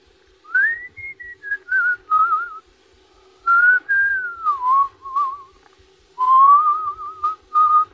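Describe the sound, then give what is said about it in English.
Someone whistles a wandering melody in three phrases, with gliding, sustained notes and brief pauses between them, clear over a faint steady hum. “That you're whistling. That? Just a song.”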